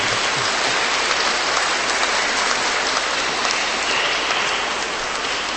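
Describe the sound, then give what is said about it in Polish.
Sustained applause from a large crowd greeting Radio Maryja listeners at a regional meeting of children's rosary circles in Holy Family parish, Szczecin, Poland: a dense, steady wash of clapping at an even loudness with no voices over it. “Pozdrówmy ich gorącymi, serdecznymi naszymi oklaskami.”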